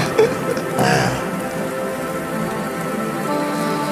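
Steady rain falls continuously, a dense, even patter with a brief louder splash near the start, and no voices.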